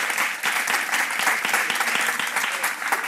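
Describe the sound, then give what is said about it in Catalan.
An audience at a film festival's honorary awards claps for Danny DeVito, a dense, even wash of many hands with no pauses, holding at a fairly loud level throughout. “Podeu aplaudir.”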